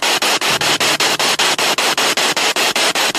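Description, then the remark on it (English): Loud, steady radio static hisses across the whole stretch, broken by rapid, regular pops or crackling pulses roughly every fifth of a second, with no voices present. “I hoped I had helped, and the voice, that final voice, the only voice that was heard there again that night, came from the popping and hissing of the radio.”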